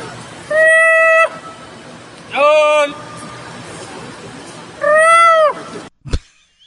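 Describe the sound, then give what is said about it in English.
A monkey call: three loud, wavering, whistle-like hoots about a second apart, each rising and bending in pitch, followed by a brief clunk at the end. “Can you hear what the monkey call sounds like?”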